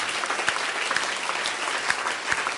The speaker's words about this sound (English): Let's just give him a hand clap of praise tonight.